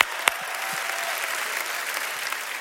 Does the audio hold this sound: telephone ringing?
no